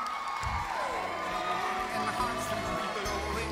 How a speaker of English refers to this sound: Next, round of applause, here we go. And give a round of applause for our lovely sister